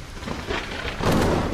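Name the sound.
rain and thunder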